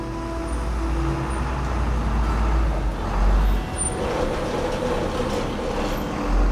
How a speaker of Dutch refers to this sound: Een paar weken later komt er een vrachtwagen over de hobbelige weg vol kuilen naar een dorpje gereden.